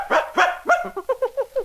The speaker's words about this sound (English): That's Nipper. Every time Nipper barks, you turn the page in your storybook, read on, or look at the pictures.